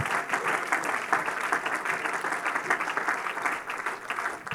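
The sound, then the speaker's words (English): An audience claps their hands in praise in sustained, dense applause that fills the room at a steady level for several seconds, with no one speaking over it. “Can we clap our hands and give him praise right now?”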